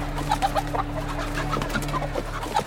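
Several chickens cluck in short, scattered bursts over a steady low hum, the barnyard calls coming quickly and overlapping at moderate loudness, with no one speaking.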